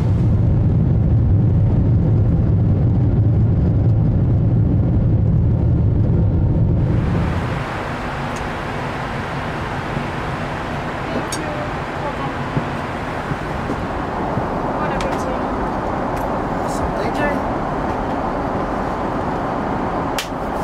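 A loud, steady airplane cabin drone in flight, deep and rumbling at first, then shifting after several seconds into a broader, airier roar with a few faint clicks and no one speaking.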